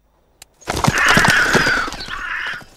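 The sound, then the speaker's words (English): A group of crows, startled by a horse galloping down a steep path, erupts into loud, overlapping harsh caws, a dense burst of agitated calls that starts abruptly after a brief click and continues for a couple of seconds. “Outside, the horse gallops down a steep path, startling a group of crows.”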